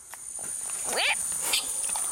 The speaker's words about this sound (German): Tapire klingen ein bisschen wie eine Mischung aus quietschender Autobremse und zwitschernden Vögeln.